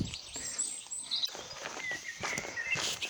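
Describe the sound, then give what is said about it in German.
Several birds chirp and trill in quick, scattered bursts in a forest, over a steady rustling background with footsteps crunching along as someone walks. “Riesen Vögelgebrüll.”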